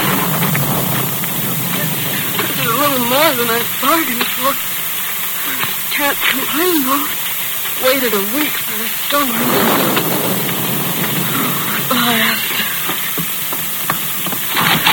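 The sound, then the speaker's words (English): A heavy wind-driven rainstorm roars steadily with dense, hissing rain and gusty surges, beating against a girl fighting her way toward a small one-room telegraph office in a Lone Ranger radio drama, while a voice rises and falls intermittently beneath the downpour. “The rain, whipped by the wind, beat hard against the face of a slender girl who fought her way toward the small one-room telegraph office.”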